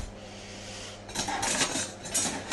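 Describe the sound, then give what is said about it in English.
Metal cutlery clatters and scrapes in an irregular jumble as someone rummages through the cutlery in a dishwasher looking for a palette knife, bright clinks and jangles starting after a quiet moment and continuing steadily, with no talking. “I'm looking for the palette knife.”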